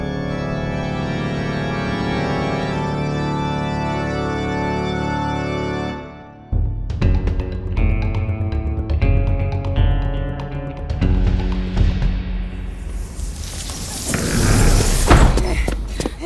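music playing

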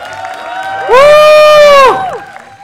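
audience applause and cheering

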